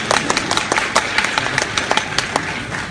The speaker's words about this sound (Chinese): 你看我们俩一上来，观众就特别捧。 哦， 哎，这掌声就特别热烈，掌声就特别热烈。